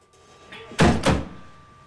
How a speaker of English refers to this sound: A trap door in the floor opens.